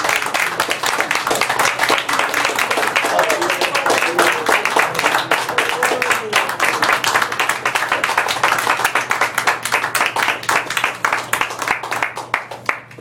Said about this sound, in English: Can we give him a hand clap for him?